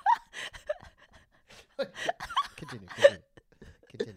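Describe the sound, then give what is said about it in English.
A series of short burps in quick succession, uneven in rhythm, mixed with gasping breaths and a few chuckles between them. “No, this is not a burping competition.”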